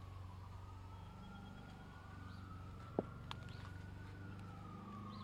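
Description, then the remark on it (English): A police siren sound effect wails in a slow, long rise and fall over a steady, buzzing low drone of someone mowing a lawn in the distance, also a sound effect, with one sharp click partway through and no talking. “Police siren, somebody mowing their lawn in the distance.”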